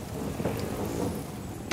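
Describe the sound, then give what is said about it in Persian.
Steady, heavy rain from a sudden downpour after a fine morning hisses continuously, layered over a deep low rumble of thunder, with a brief sharper splash near the end. No one speaks. “صبح که از خونه زدم بیرون هوا خیلی خوب بود. یه دفعه بارونی شد.”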